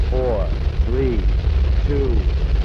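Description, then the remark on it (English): A rocket engine roars at launch and liftoff as one steady, loud, deep rumble with crackling noise, with brief fragments of voices rising faintly over the continuous blast. “At launch, the noise was extremely loud.”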